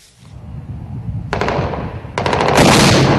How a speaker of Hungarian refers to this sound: 2 napja szakadatlanul dörögnek a fegyverek a dél-iraki városban. A helyi síta milicisták a szintén síta többségű központi kormányhadsereg ellen harcolnak.